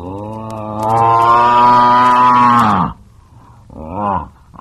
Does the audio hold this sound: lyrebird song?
no